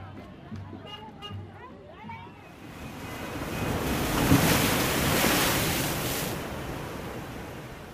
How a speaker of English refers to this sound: Out of the darkness, a stormy sea hurls waves against the rocks.